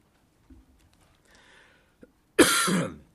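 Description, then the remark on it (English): A single harsh, loud cough bursts out after a quiet stretch, preceded by a faint throat sound and a small click. No one speaks. “A little bit of a cough, excuse me.”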